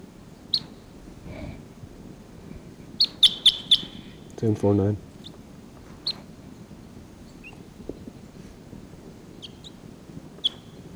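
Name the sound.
wild bird calls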